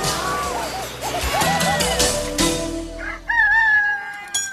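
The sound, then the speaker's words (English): A chicken clucks and crows loudly, its squawking calls coming in a rapid, agitated series over a background of rustling noise, as an old man holds it by the feet. “an old man holds a chicken by the feet and pesters Pancho with it”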